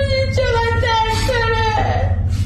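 A sick child with SMA moans in a hospital bed in Iran, after surgery, in a long, wavering, high-pitched whimper that rises and falls without a break, over a steady low hum in the background.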